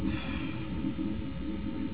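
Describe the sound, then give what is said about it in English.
An air conditioner buzzes with a steady, low droning hum that stays even and unbroken throughout, with no voices or other sounds over it. “The buzzing of the conditioner, all the little sounds that the ears can hear.”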